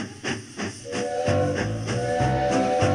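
A steam train chuffs in rhythmic hissing bursts, then a loud, sustained steam whistle sounds over the continuing puffs. No one speaks.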